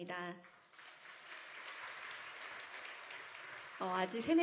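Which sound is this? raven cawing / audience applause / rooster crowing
audience applause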